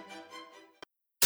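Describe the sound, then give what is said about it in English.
A wavering tonal hum like a radio being tuned, then a sharp crackle, a moment of silence, and a sudden loud burst of harsh static at the end. “Static. Noise. That's all we hear, or so it seems.”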